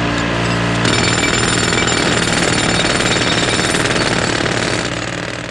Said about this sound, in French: Pour le MP3, c'est 100 décibels, le bruit d'un marteau-piqueur.